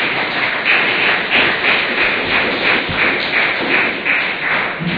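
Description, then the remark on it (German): A crowd applauds steadily for several seconds for everyone who is there that day, a dense, loud wash of many hands clapping at once with no voices on top, the clapping gently swelling and ebbing throughout. “Ich denke, wir können mal klatschen für alle, die heute da sind.”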